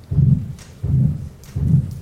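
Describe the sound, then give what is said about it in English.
A stenotic heart valve sound: three deep, muffled thumping beats in a steady rhythm, each stretched into a rough, low whoosh, with a faint hiss between them and no talking. “Here's our stenotic heart sound.”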